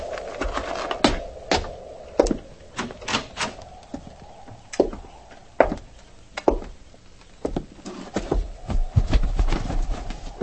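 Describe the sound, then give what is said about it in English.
Horses' hooves clip-clop in an uneven, steady rhythm of sharp knocks over about ten seconds, moderately loud, with a low hum of ambient noise underneath and no talking. “hobble them horses and get up here.”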